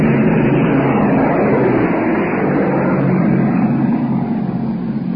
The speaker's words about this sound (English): That baby was plenty low. I think I just made the statement that no German planes have been seen, and I think there was the first one we've seen so far. He came very low, just cleared our stack, and as he passed, he let go a stream of tracer